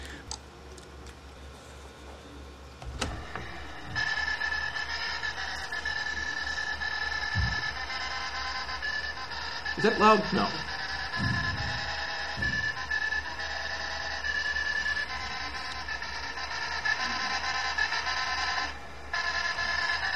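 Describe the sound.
An IBM 1401 line printer from the late 1960s chatters continuously, its rapid mechanical hammering forming sustained pitched tones that trace out a simple melody; a brief voice speaks once near the middle.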